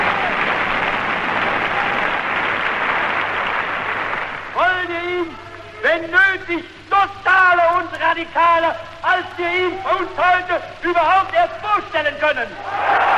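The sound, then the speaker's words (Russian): A large crowd shouts 'Yes!' to the question 'Do you want total war?' and breaks into a storm of applause for a few seconds, then falls away as a man's forceful, declamatory voice takes over, delivering a speech in short, emphatic bursts. “Хотите ли вы тотальной войны? Крики народа. Да! Шквал аплодисментов.”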